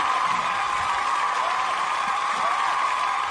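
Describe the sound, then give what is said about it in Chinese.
Steady audience applause for a talent-show contestant after a vocal-mimicry act fills the whole stretch, a dense, even wash of clapping hands with no pauses or voices breaking through, holding at a constant moderate loudness. “但是掌声送给你，”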